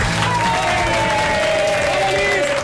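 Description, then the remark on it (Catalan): A crowd applauds steadily and loudly for a few seconds for the humorist Peyu, arriving from Osona on Catalunya Ràdio's APM show. Dense clapping with some cheering mixed in, while a faint tonal hum runs beneath. “El Peyu l'aplaudeixen molt.”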